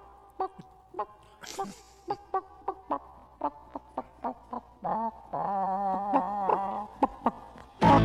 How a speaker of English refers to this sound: these are they are house-raised and domesticated chickens. I don't know if the word domesticated fits there because It doesn't sound like they're domesticated. Yeah, because they are pecking at people's legs.